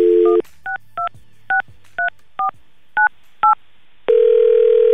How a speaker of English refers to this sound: We're gonna call Mark here. We got his phone number